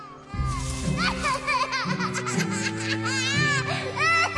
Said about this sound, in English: What's that? It sounds like someone's crying.